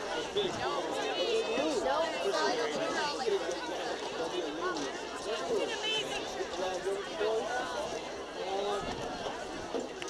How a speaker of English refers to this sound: It's just a big crowd.